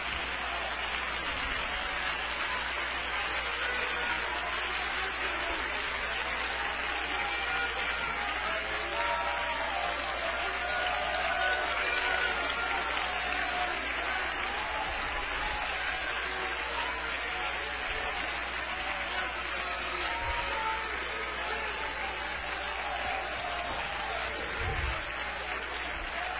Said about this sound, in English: Oh, give the Lord a hand clap, everybody. Worship Him.